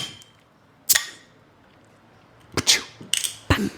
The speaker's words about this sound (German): Das war jetzt natürlich auch toll, weil du den Öffner so auf die Flasche gehauen hast am Anfang.